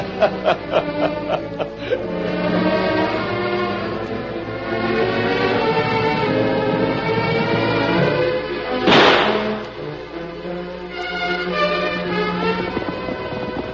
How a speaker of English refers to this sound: Was a gunshot, Tonto.